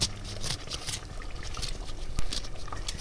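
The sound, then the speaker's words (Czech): A knife slicing a lemon in half, to be added as the last ingredient to a goulash: soft, wet crackling and juicy squelches over about three seconds, with a sharper snap partway through. No one speaks. “To jsme rozkrojili citron na půl a budeme ho dávat jako poslední ingredienci do toho guláše.”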